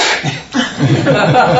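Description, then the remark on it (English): A single sharp, breathy sneeze bursts out, followed after a brief pause by soft voiced sounds like a faint chuckle or murmur. “Bless you. Again.”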